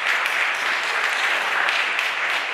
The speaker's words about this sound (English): I want to hear you clap and give God thanks for his favor.